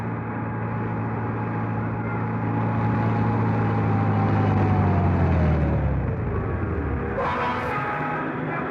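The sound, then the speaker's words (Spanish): A car drives through the busy old streets of a city's downtown neighborhood amid heavy traffic, its loud, steady engine rumble droning. The pitch slowly sinks toward the end, then a short hiss breaks in. No voices. “Simplemente se interna en las viejas calles de la barriada, donde el tráfico grita a cada paso.”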